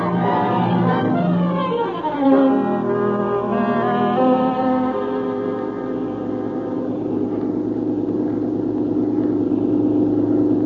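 car engine running

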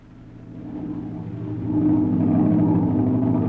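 airplane engine in flight

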